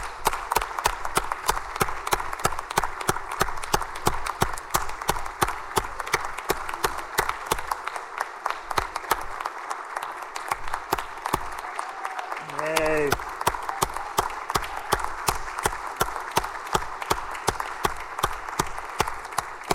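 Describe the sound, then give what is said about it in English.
A round of applause in a Senate session welcoming the Senator from the 5th back to service, many hands clapping steadily and densely for the whole stretch, with a brief harmonic voice-like tone rising out of the crowd noise partway through. “Could we please provide him a warm round of applause for coming back in his service?”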